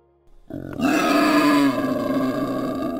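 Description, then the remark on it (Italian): A wild boar lets out a loud, low, rough grunt that starts abruptly and stretches into a long, gravelly, growling call lasting a couple of seconds, with no talking. “Oh, c'è cinghiale!”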